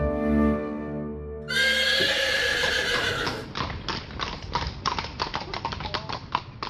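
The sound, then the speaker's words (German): A horse gives a loud, shrill whinny, then its hooves clip-clop in a steady rhythm of sharp knocks until the end. “Auf dem Pferd.”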